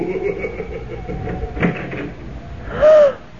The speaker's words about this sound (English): What are we going to do, Clark? Well, I'm going to open that door.